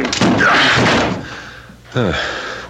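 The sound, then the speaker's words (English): A locked apartment door is forced open with a heavy, splintering crash lasting about a second, loud, then a voice is briefly heard calling out afterward. “Door is locked. Break it in.”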